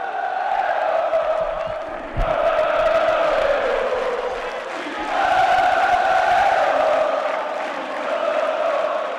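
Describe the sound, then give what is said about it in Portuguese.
A large crowd of Corinthians football supporters roars and chants in unison, a dense, steady wall of massed voices that swells and dips in waves over several seconds, with a brief thump partway through. “Logo, a Fiel pôde finalmente soltar o grito.”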